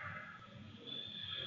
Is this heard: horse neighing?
yes